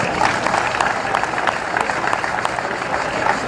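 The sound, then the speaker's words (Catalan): An audience claps steadily throughout, a dense, even patter of many hands at a fairly loud level with no pauses or voices standing out, applauding the library and communication service staff at a city ceremony. “Un aplaudiment per a tots ells.”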